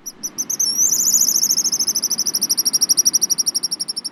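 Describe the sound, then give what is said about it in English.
Pigeon guillemots, black and white seabirds out on the water off a beach, give thin, high whistled peeps that run into a rapid, steady trill of pulsing notes, carried over a soft low wash of background noise. “Out on the water, look for groups of black and white seabirds called pigeon guillemots.”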